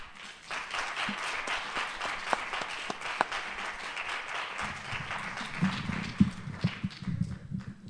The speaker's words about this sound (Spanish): Somos pocos, pero ¿cómo aplaudimos, eh? Muy bien.